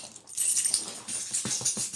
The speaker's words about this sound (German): Und dann hat er immer mit dem Schlüssel so geklappert, von Weitem schon. Dann wusste man, wenn man Scheiße gebaut hat, dass man, der jetzt kommt da, die Schlüssel klappern. So hat sich das immer angehört. Pass auf, so.